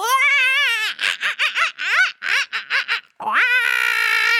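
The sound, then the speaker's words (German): Loud, high-pitched screaming of people yelling together as loud as they can while drumming their fists on their chests like apes: a long sustained shriek, then a rapid burst of short choppy yells, a brief pause, and another drawn-out scream to finish. “Dabei schreien wir alle zusammen ganz laut.”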